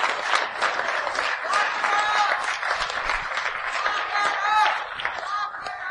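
An audience claps in a dense, steady burst of applause that holds strong for the full six seconds, with cheering voices and a few shouts rising through it.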